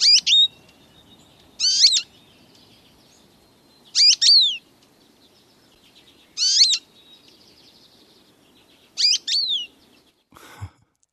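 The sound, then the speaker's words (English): A bright yellow American goldfinch gives five bright, high-pitched call phrases (a call rather than its song), each a quick cluster of sweet rising-and-falling notes, spaced about two seconds apart over quiet background hiss, ending with a brief click. “There is the bright yellow American goldfinch.”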